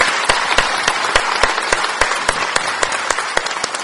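An audience applauds the Lord steadily, many hands clapping in a dense, bright wash with a few sharper claps standing out at irregular intervals, sustained and fairly loud with no talking.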